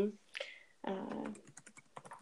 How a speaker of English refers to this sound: I love that I can hear you typing. I don't know, man. I feel like podcasts like to cut that stuff out. And I love being able to hear that you are typing on a computer right now. That puts me right in the space with you.